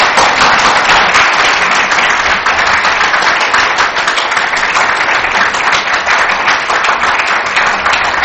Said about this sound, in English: Let's give her applause.